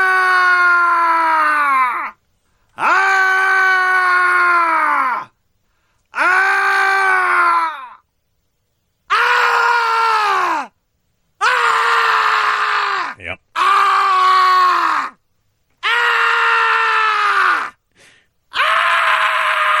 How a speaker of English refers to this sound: This is our first annual play of the Scary Sound CD, and this is, of course, the best track on there. And this is Screams, Man, from the Scary Sound CD.